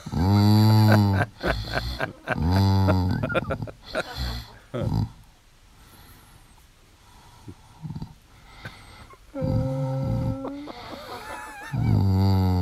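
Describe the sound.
A sleeping man snores and moans, with drawn-out voiced groans rising and falling between softer, rougher breathing snores, moderately loud throughout.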